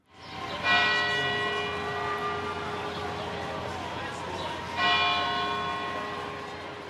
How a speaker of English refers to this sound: today's race marks the 6th anniversary to the day of the 2013 marathon bombing, and the city, as it has customarily, held a moment of silence with a bell ringing at 2:49, marking the time of the first explosion.